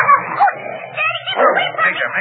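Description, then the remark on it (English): A dog named Major, left in the house, yelps and barks loudly in a rapid, almost unbroken string of shrill, excited cries lasting a couple of seconds. “I wonder who left the dog in the house.”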